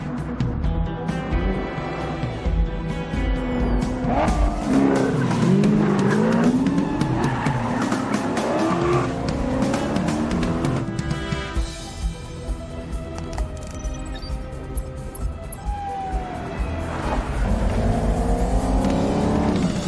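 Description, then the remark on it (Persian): A car's tires squeal and skid through a sharp turn, the engine roaring and revving loudly, with long swooping screeches rising and falling over continuous motor noise. “ببین چه دوری میزنه.”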